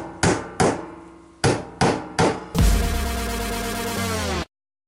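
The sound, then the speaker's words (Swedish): Five sharp hammer strikes land in an uneven rhythm, each decaying quickly, followed by a loud, sustained, dense ringing rumble that cuts off abruptly. No one speaks. “Så låter det inte, vad jag vet, någon som hamrar med hammare.”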